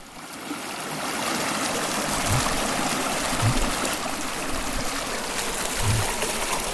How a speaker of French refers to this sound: Au départ de cette randonnée, nous longeons la Loire. Nous ne sommes pas loin de sa source. Ici, elle a la taille d'un ruisseau.